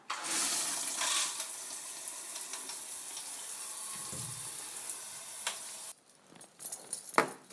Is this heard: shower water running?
yes